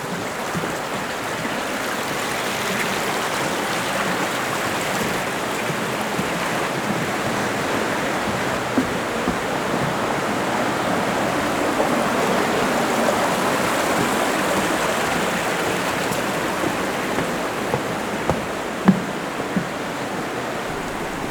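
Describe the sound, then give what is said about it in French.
A river flows through a canyon beside a trail, its broad, continuous roar of churning water rushing steadily without pause, with no voices present. “Le sentier de ce canyon suit le fil de la rivière.”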